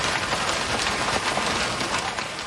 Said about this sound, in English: That's hail from Dan Malloy on X, who recorded that outside of his home in Baldwin, Missouri.